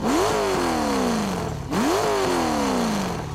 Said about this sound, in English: Behind me, the car's engine revved as she lurched forward.